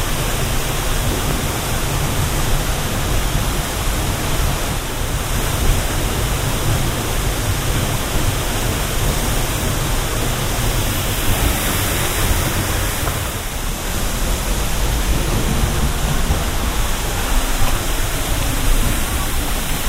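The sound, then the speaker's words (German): A waterfall heard from behind the falling water: a steady, dense rushing roar that fills the whole stretch without pause, loud, with no voices. “So hört sich ein Wasserfall von hinten an.”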